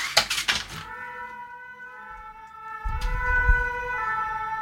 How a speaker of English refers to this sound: I guess that's a police car or an ambulance or something, I don't know. There's usually some trouble going on downstairs.